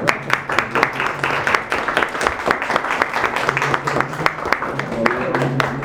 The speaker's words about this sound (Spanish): Ah, fue un privilegio. Un aplauso.